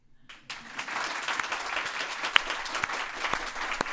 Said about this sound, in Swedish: Vi befinner oss i Stockholm, ja, på Goethe-institutet, ja, inför en månghövdad publik. Jag tänkte att för lyssnarnas skull, så att de ska förstå vilken situation vi befinner oss i, att vi skulle be om en applåd till.